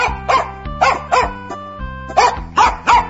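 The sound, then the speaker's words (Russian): The master's dog, having jumped out of a sack, barks repeatedly while chasing a fox, about six sharp, loud barks in quick pairs, over a steady low musical hum in the background. “Вот села она, положила мешок на землю, и только было принялась петь, как вдруг выскочила из мешка хозяйская собака.”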